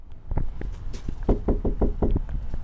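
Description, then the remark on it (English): Firm knocking on an apartment door in the only income-restricted apartment complex in Douglas: a few scattered raps, then a quick, steady run of five solid knocks, with no voices. “I knock on the door of an apartment in the one and only income-restricted apartment complex in Douglas.”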